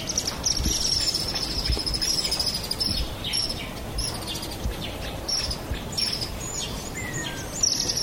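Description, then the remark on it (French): Birds chirp steadily over a constant outdoor hiss in an abandoned part of the Kwetene 1 neighborhood, near the Fatima youth center, on a Sunday around 9 a.m., with repeated high, thin calls and a brief upward whistle near the end; no one speaks. “Le secteur est sinistre, à part des bruits d'oiseaux.”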